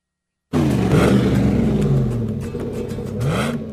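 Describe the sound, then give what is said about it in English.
A truck engine revs hard through a customized dual exhaust system installed by Danny's Muffler, roaring loudly, with the pitch climbing and falling across a couple of deep, rumbling throttle blips. “Dual exhaust sounds really great.”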